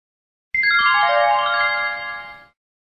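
A telephone ringing tone on the line as an operator connects a call: a bright electronic cascade of notes stepping quickly downward, then sustaining and fading over about two seconds, heard once, clear and alone with no talking.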